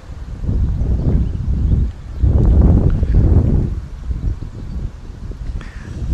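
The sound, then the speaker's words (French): Gusty wind buffets the microphone outdoors beside a nettle plant in strong low rumbling surges that rise and fall, with faint rustling of leaves underneath. “Non, bouge pas, il y a du vent.”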